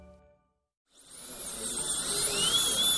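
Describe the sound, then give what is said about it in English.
A dentist's drill starts up after a brief silence and whirs steadily with a high, piercing whine that rises slightly in pitch and grows louder, heard alone. “The sound of a dentist's drill makes almost anyone cringe.”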